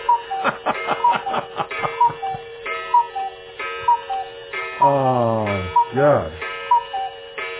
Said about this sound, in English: What is that ticking?